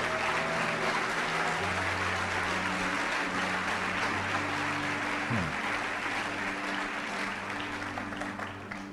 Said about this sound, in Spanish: No, si va a aplaudir, aplauda con ganas, que se sepa.